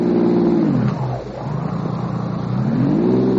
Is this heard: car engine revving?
yes